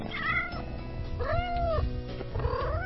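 One of a pair of kittens adopted about two months earlier meows three times in quick succession, thin high-pitched cries with brief pauses between them, over faint low background rumble and no talking.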